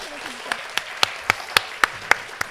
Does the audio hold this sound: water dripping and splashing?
no